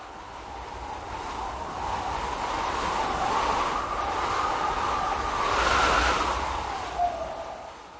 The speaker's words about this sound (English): On Wenceslas Square last night, plastic bags danced in the air, and pedestrians shielded their eyes as strong gusts blew dirt and debris everywhere.